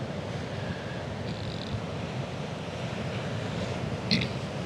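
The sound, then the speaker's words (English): Steady roar of ocean surf on a beach in Kauai mixed with gusting wind buffeting the microphone, during a water purification ceremony; a continuous outdoor wash of noise with no voices and a brief brighter splash near the end. “And you might even hear the ocean and the wind as we are in a public place.”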